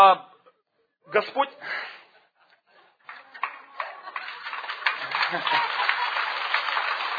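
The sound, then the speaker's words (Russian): A church audience breaks into applause during a sermon: scattered claps and voices at first, then dense, steady clapping that swells and holds, with some laughter mixed in. “Придержитесь, я понимаю, но вы когда хлопаете, вы мне время крадете.”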